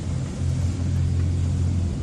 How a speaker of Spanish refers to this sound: Es el sonido del vídeo compartido en redes sociales por la Corporación de Prácticos de A Coruña, con su lancha navegando a saltos por las olas a la hora de acompañar a un carguero que necesitaba atracar en el puerto.